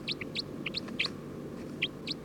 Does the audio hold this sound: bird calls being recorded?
yes